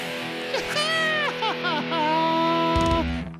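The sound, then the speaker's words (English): A person lets out a loud, drawn-out scream, the pitch wobbling and sliding for a few seconds before breaking off, with no other talking. “Here, you do the scream.”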